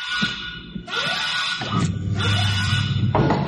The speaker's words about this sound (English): I'm sorry, I set off an alarm. Perimeter alarm.